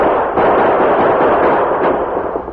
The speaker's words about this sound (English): The gunman's victim staggered a couple of steps and dropped behind the shed, while the Lone Ranger and Tonto, dashing downhill, maintained gunfire at the distant rock pile.